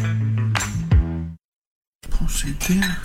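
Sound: dishes clinking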